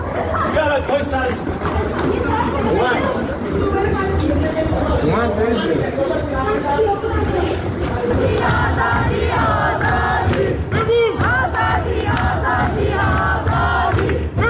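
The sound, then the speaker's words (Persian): A large crowd at a night protest gathering in Ekbatan township, Tehran, chants loudly and continuously, many voices shouting together in a rough rhythm over a dense babble of yelling and cries, with no quiet gaps. “شهرک اکباتان تهران، حمله نیروهای امنیتی موسوم به لباس شخصی با گلوله‌های ساچمه‌ای و بمب صوتی به مردمی که تجمع اعتراضی شبانه برگزار کردند.”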